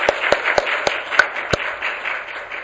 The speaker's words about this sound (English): I just want to give them all just a quick another round of applause. They all spoke very nicely.